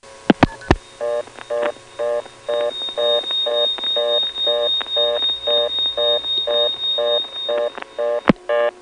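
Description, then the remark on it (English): A steady, high-pitched telephone tone holds over a rapid, regular train of pulsing multi-tone bursts on a phone line, framed by sharp clicks at the start and near the end. No voices. “Those are near 3700s beating together.”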